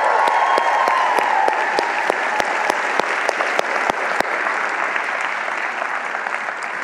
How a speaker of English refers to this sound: Dear self. It all starts with you. Clap it up for yourself.